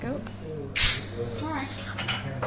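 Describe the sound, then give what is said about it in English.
A bottle of homemade, pale straw-yellow sparkling wine is opened with a sudden hissing burst of gas, followed by a soft steady fizz while voices murmur in the background. “So do you want to open it up there and we'll hear the fizz?”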